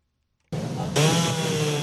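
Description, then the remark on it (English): A power saw in a Miami trailer park starts abruptly after a brief silence, then its whine rises to a louder, steady roar with a sustained harmonic pitch as it cuts during cleanup after Hurricane Irma, with no voices present. “A power saw can now be heard in a Miami trailer park as cleanup has at last begun in the aftermath of Hurricane Irma.”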